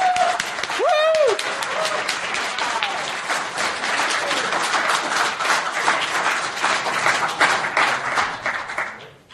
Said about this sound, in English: And finally, let's get a round of applause for the organizers for everyone who put this together.